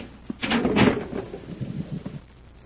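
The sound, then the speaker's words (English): A heavy concealed door in a sub-basement grinds and slides open with a loud scraping rumble, followed by lower, uneven rumbling and clunks that gradually settle. No voices are heard. “There's a concealed door here.”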